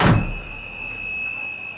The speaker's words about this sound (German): Türen schließen, Vorsicht bei der Abfahrt des Zuges!